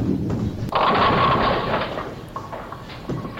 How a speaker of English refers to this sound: You knocked over 7 pins, leaving 3 pins standing. 7, 8, 10.